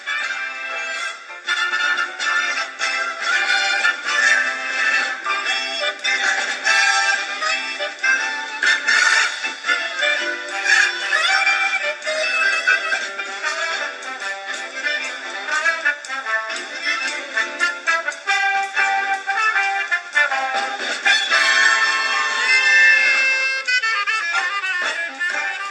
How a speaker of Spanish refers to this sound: vamos entonces a escuchar Jingle Bells en una versión jazz que nos tiene que hacer levantar de la silla